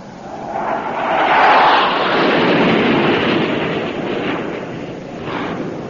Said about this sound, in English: What is it, Daddy? What is it? Airplane. I'll never forget that sound. Or something worse. They must have invented something worse than airplanes by now.